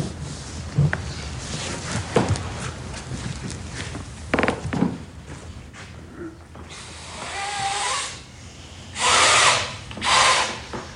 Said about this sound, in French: En dehors de faire gonfler... de manière obsessionnelle, le ballon.